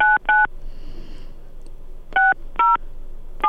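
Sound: telephone keypad dialing tones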